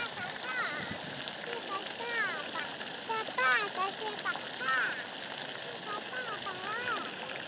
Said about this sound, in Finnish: Ja tässä nyt vielä tätä suihkukaivoa, tai siis itse asiassa tämä on lampi, jossa on semmoinen suihkulähde.